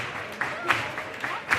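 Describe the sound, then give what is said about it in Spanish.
Audience at the Gran Teatro Falla clapping to receive a chirigota, with a murmuring crowd underneath, a few sharper claps standing out at irregular moments against a steady, moderately loud wash of noise. “Que la recibe el Gran Teatro Falla, sí, con palmas.”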